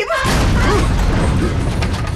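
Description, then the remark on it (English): A heavy slam onto an elevator car roof hits hard, then gives way to a loud, sustained metallic rumble and clatter that fills the rest of the moment without fading. “Something just slammed into the roof of the lift car.”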